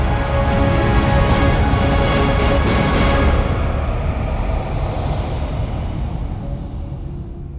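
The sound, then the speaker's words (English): An approaching small aircraft's engine drones steadily in the afternoon sky above a sea breeze: a dense, rumbling roar threaded with a sustained tonal hum, easing slightly in loudness toward the end, with no voices. “In the afternoon sky, the sound of the approaching aircraft rose above the sea breeze, a steady drone.”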